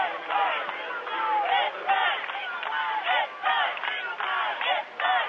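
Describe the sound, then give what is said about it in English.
A basketball crowd at a Lutheran High basketball game cheering and shouting continuously, with a section of Lutheran High fans standing and cheering, a dense wall of many overlapping voices rising and falling in rhythmic bursts, loud throughout with no break. “As you can hear, good crowd behind us. Lutheran High has a certain section that's standing and cheering, and this happens to be right behind us here.”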